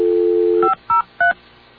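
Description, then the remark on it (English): A steady dial tone hums briefly, then cuts off as three quick touch-tone keypad beeps follow in an uneven rhythm while a phone number is being dialed, clear with no talking. “I don't dial 9, right?”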